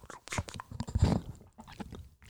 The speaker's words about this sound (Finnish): Nieleskelyä ja maiskuttelua. Mungbang-meininki.